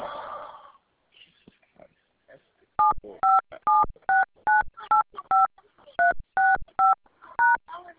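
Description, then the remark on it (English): A rapid string of about eleven touch-tone keypad beeps, each a short two-pitch tone with brief gaps, clear, as a full phone number with area code is punched in for a customer service callback, after a moment of muffled noise. “Please enter your full phone number and the next available agent will call you back.”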